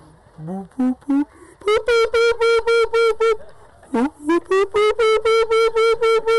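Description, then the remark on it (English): A human voice imitates the dawn call of the Dogila, a bird bigger than a crow with reddish wings: a few rising whoops, then a quick series of loud, evenly spaced honking notes, a brief pause, and another similar run. “Then after the peacocks, just as light starts to come in the sky, there's a bird called Dogila. He's bigger than a crow with reddish wings.”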